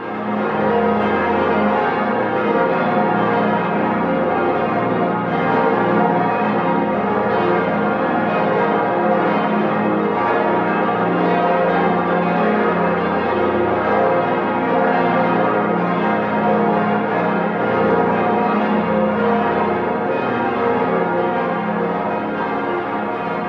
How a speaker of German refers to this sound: Sie hören im Hintergrund noch die Glocken des Hildesheimer Domes. Er ist nur wenige hundert Meter entfernt von der Kirche des Priesterseminars, die bis auf wenige Menschen leer ist.